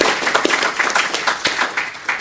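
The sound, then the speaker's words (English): At the close of a conference, the audience applauds themselves. Many hands clap together in a dense, continuous patter that stays fairly loud throughout, with no voices standing out. “And yourselves, you really deserve a round of applause for yourselves.”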